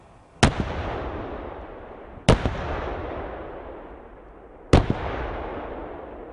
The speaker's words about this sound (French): Phase ultime de préparation avant leur projection, le 4e escadron a conclu cette MCP par un tir canon plus vrai que nature.